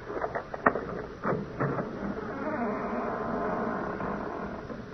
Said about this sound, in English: Well, we've opened the front door now. Maybe you heard the hinge squeak a little.